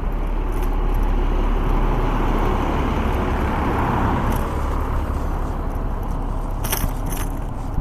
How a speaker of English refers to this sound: I don't know what this bus is waiting for. They're not waiting on me.